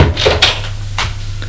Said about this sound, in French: Il entre. Je ferme la porte.